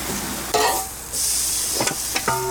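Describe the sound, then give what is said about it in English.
Vegetables, including zucchini, sizzle on a grill with a steady hiss, broken by a few sharp clinks and scrapes of a utensil against metal. No one speaks. “It's nice to have crunch left with your veggies on the grill.”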